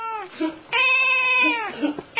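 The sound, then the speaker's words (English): A cat yowls: a short cry, then a long, loud, drawn-out wail that bends downward, followed by another cry starting at the end. No one speaks. “Caterwauling, that noise that cats make.”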